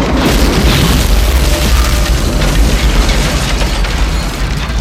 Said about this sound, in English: On the street, they take a flying leap away from the apartment house as the entire basement explodes.